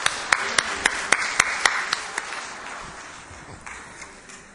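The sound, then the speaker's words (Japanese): An audience gives a big round of applause in celebration, a steady wash of clapping, with sharp, evenly spaced claps standing out at first before the applause gradually thins and fades. No one speaks. “皆さんもう一度盛大な拍手で祝福しましょう。”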